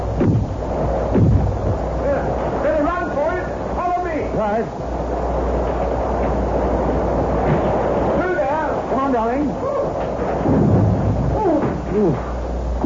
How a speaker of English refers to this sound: the storm's got worse, if anything.